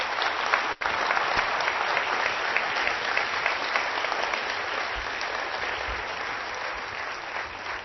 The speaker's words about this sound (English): Let's give them a round of applause, y'all.